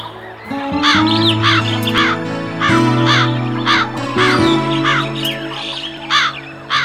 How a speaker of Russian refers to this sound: Ты, наверное, наблюдал, как огромные стаи ворон, грачей, галок устраиваются на ночь на городских деревьях. И всю долгую зимнюю ночь, какой бы она ни была, морозной или теплой, метельной или звездной, не шевелясь, сидят на голых ветках черные птицы.